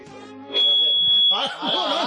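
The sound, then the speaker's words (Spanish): A hearing aid alarm lets out a steady, shrill electronic tone that holds for under a second, then a voice starts talking as the tone fades beneath it. “Ah, no, esto es el la alarma, el sonotone, que la voy a poner aquí de”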